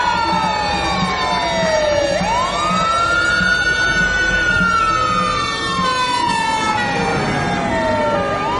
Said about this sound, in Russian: К дядиному жилищу съезжались пожарные машины.